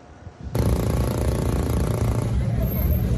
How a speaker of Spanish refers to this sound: Motores que rugen en Miami. Decenas de autos modificados llegaron al sur de Florida para iniciar una particular exhibición de diversos modelos de automóviles que fueron modificados